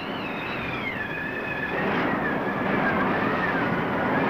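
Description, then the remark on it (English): Waves crash over a schooner's deck as sailors wrestle with the ship's wheel, a steady, loud roar of rushing water, with a thin, wavering whistle like gusting wind riding above it throughout. “On deck, sailors wrestle with the schooner's wheel as waves crash over them.”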